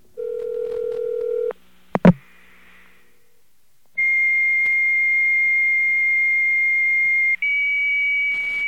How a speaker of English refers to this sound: Okay, well, try to remember what the fax machine sounded like and try to remember what the other modem sounded like.